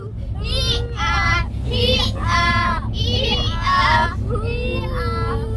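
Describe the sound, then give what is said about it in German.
Three children shout and chatter in high, excited voices, loud and overlapping almost continuously, over a steady low engine rumble inside a bus taken during a tour to escape bad weather. “Wir sind ein Stück gefahren, haben die drei Kinder drin, so hört sich das an.”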